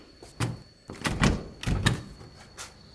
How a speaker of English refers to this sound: It's locked. The door's locked.